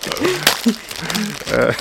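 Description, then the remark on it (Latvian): Crisp crinkling of a candy wrapper, rustling in short bursts while someone talks over it. “Bombongas ar čaukstīgāko papīrīti.”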